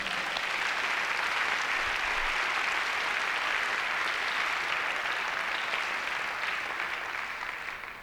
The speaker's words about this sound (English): And I think that really deserves a little round of applause.